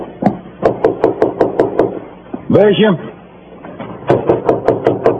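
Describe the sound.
A quick, steady run of firm knocks on a locked wooden door, broken by a voice calling out once, then another rapid burst of loud knocking.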